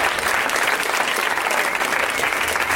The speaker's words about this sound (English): Way to milk the applause.